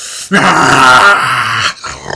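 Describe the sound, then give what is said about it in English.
A voice imitates a loud orc snore: one long, rough, rasping growl lasting over a second, forceful, followed by a brief quieter breath. “which is like a big fucking orc snore.”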